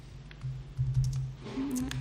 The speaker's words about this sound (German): Ich bin immer mit dem Tippen nicht so gut.